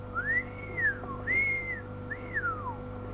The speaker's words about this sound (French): Mais nous entendîmes bientôt le serpent qui vint en sifflant jusqu'au pied de l'arbre où nous étions.